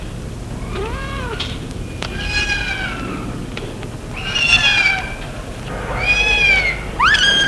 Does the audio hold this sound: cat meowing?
yes